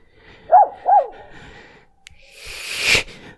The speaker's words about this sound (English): Wait, is that a dog?